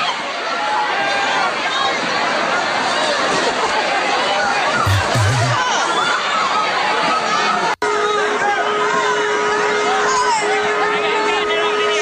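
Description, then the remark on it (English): A large crowd waiting outside mall doors for them to open in the middle of the night shouts and screams together in a dense, continuous roar, loud throughout, with a brief cut partway through before the same clamor resumes. “People are screaming.”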